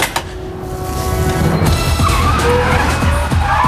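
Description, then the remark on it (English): A small Union Jack Mini car skids in loud, tires squealing in a long, shrill screech over engine rumble as it slides to a stop. No one speaks. “calls a Union Jack car over. Your spy car's a mini.”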